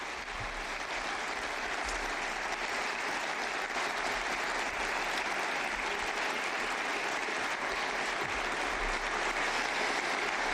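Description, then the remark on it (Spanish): Sustained, steady applause from a large audience, a dense wash of clapping at constant loudness for about ten seconds with no voices standing out. It is an ovation for the Brazilian full-back Marcelo as he is about to speak at the Real Madrid pavilion in Valdebebas. “Llega la ovación en auxilio.”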